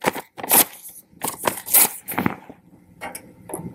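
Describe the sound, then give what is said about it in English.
A fake paper banknote, not real money, is crinkled and rustled in several crisp, uneven bursts with brief pauses between, louder early on and softer toward the end. No one speaks. “Money, this $10,000, this is a piece of paper. Listen.”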